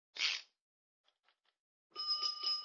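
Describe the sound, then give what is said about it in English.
A fire alarm box bell starts ringing after the guard is lifted and the handle pulled to send a fire alarm, a rapid, steady metallic clatter that carries on loud to the end, after a brief scraping rattle and a few faint clicks. “Yeah, now a bell goes off in the box, but don't let it scare you.”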